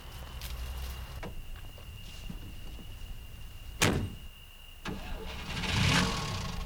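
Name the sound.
car engine starting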